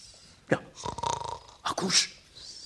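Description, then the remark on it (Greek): Rough, rattling snores: a short snort, then a long buzzing, pulsing rasp, followed by another guttural snort and a breathy wheeze, all fairly loud, with no speech. “Ακούς ροχαλιτό.”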